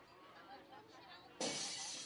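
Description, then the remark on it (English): A glass window shatters abruptly as a sound effect in an advertisement for Finishing Glass Works, with a loud, bright crash that rings on briefly, following a stretch of low background murmur. “Broken windows, it's Finishing Glass Works”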